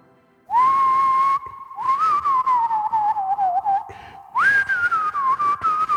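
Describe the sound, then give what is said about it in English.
A person whistles a TV theme tune, a clear melodic line with held notes and wavering runs that climb higher near the end, loud with no talking. “I can never get the high note on my whistle.”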